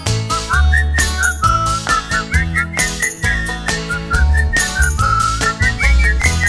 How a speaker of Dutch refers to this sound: Oh, nu komt het allermoeilijkste, hè? We gaan met z'n allen fluiten. Probeer het maar. Harder fluiten. Oh, dat kan nog harder.